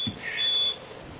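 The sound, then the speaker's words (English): A brief high-pitched electronic beep sounds over a faint background hum, rising slightly in loudness before fading out, with no voices present. “You hear the beeps on the background.”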